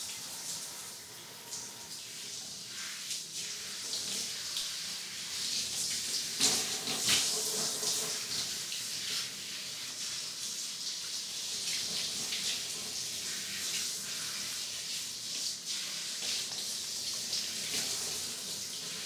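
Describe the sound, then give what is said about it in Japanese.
Steady spray of shower water hissing onto hair as it is being washed, continuous throughout with small fluctuations and a brief louder splash partway through; no one speaks. “シャワーを髪にかけますよ。”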